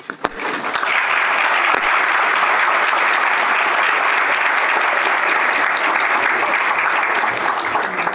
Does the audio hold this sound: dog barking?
no